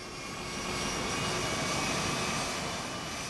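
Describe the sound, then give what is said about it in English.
A C-17 cargo plane lands in San Antonio on a hot summer night after a 12-hour flight from Germany carrying wounded servicemen, rumbling past with a steady, broad roar of engines, loud and sustained throughout, with a whining high-pitched edge over the deep noise. “A C-17 cargo plane lumbers in.”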